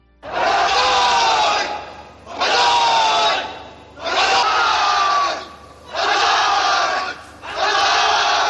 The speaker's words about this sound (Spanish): Banzai, Banzai es el grito de guerra de los soldados japoneses.